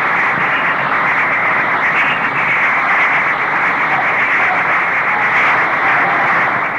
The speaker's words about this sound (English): Italian fascist newspapermen interrupt the Lion of Judah. They whistle, boo, and shout.